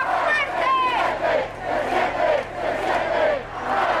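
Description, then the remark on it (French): A large crowd of supporters of candidate José Antonio Kast cheers and shouts in front of a stage set up in a street closed to traffic in a wealthy district of Santiago, Chile, on the evening of 21 November after the results; many voices rise and fall in steady, rhythmic swells like a chant, loud and continuous. “Le soir du 21 novembre, après l'annonce des résultats, les partisans du candidat José Antonio Kast se sont agroupés devant une scène installée en plein milieu d'une rue coupée à la circulation dans une commune riche de Santiago.”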